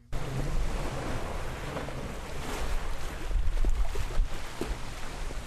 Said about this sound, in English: It's a little after 5 a.m. on a very wet and windy August morning at Dunleary Pier in Dublin.